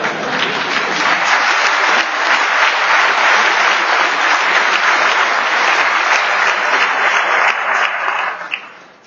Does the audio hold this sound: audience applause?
yes